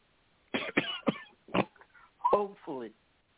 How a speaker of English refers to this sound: Excuse my coughing, lady and gentlemen. I'm trying to get over something that I just recently had.